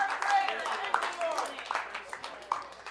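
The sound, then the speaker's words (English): An audience claps for Jesus, many overlapping hand claps forming a steady patter at moderate volume, with voices calling out and murmuring throughout. “Let's give Jesus a clap.”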